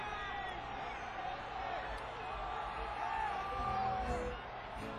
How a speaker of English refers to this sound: Yell out any songs you want to hear. If I can hear.